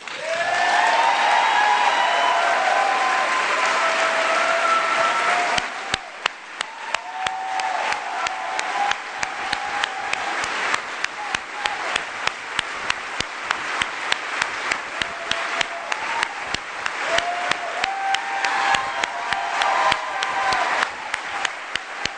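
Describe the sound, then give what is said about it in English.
A large crowd at a political event gives a standing ovation to acknowledge the candidate, applauding loudly and steadily, the dense roar of clapping mixed with cheers and whistles, then thinning after a few seconds into sustained, rhythmic clapping that continues throughout. “There's a standing ovation as the crowd acknowledges the candidate.”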